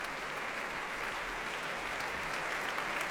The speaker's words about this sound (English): Back he comes, the dapper figure. Warmly welcomed back and applauded by orchestra as well as audience.